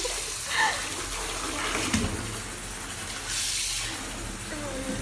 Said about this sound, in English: We can maybe have a bit more water so it gets warm again